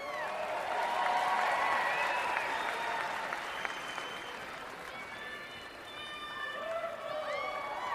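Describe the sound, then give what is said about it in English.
A crowd in Cleveland applauds and cheers steadily for several seconds after a speaker congratulates Donald Trump on winning the nomination, with dense clapping and shouted voices rising and falling over the continuous roar. “Right, big cheer.”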